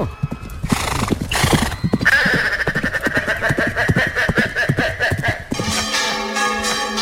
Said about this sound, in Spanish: Las campanas de la Giralda están repicando, alertando de la amenaza de un animal de origen desconocido que ha tirado ya 6 floreros desde las alturas.